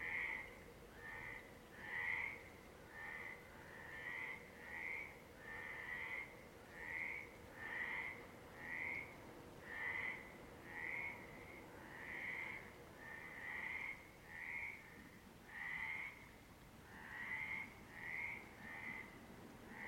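Frogs croak at night in a steady, rapid chorus of short rasping calls repeating about once a second, moderately loud, over a low continuous background rumble.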